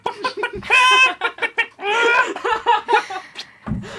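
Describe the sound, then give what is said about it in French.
A man imitates a hen on a TV studio set, with quick bursts of clucking broken by two drawn-out, squawking cackles. It sounds fairly loud, with a little laughter mixed in. “Merci … pour ce témoignage poignant et merci d'avoir fait la poule sur notre plateau.”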